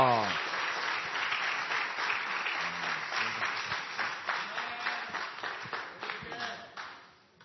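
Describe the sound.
An audience bursts into sustained applause, dense clapping holding steady for several seconds with scattered voices calling out underneath, then fading away at the end.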